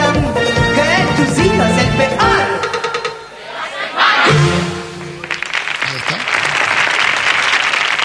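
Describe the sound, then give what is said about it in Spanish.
Voices ring out 'Qué horóscopo, Dios mío' from a recorded cut of Eloy Arenas's horoscope for several seconds, then a burst of applause takes over: dense, steady crackling clapping from a crowd that fills the last few seconds with some chatter mixed in. “Gracias, minoría arrebatada, por estos aplausos que tanto me estimulan.”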